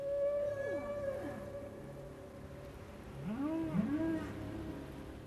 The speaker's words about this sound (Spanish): ¿Una ballena?